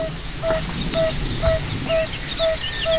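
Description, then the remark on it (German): Soft, mellow 'oop' mating calls of male fire-bellied toads calling females, played back on a phone, repeat at a steady pace, roughly two per second, a low hooting tone with a slightly tinny, phone-speaker quality over faint background noise; no one speaks. “Da suchen sich die Männchen das Gewässer aus einer Pfütze und rufen dann die Weibchen herbei.”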